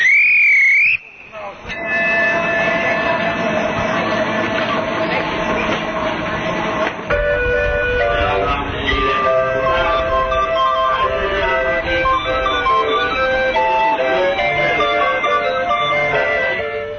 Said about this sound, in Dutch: Goed, ik ga nu de trein even afsluiten en dan gaan we weer weg.